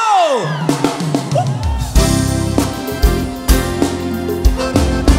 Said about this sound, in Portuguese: joga as suas mãos pra cima e dá um grito!